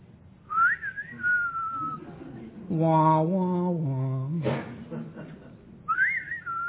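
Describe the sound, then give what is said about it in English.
A person whistles a sliding western film theme in two short, close phrases, with a voice singing the melody's low, wavering notes in between. “See, there was a reason behind my wetting my whistle there.”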